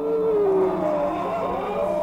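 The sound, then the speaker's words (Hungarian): A dog howls in one long, mournful, wavering note whose pitch slides slowly downward, over a steady low rumble. No one speaks. “Kutya! Hacs! A kutya!”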